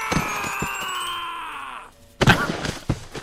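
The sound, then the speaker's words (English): A long, strained video game scream slides downward in pitch for nearly two seconds, then after a short pause a few heavy, punchy thuds hit in quick succession. “I freaking love the screams on this game.”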